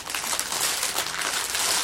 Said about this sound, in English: Sorry about all the noise in the background. He's crumpling up shit.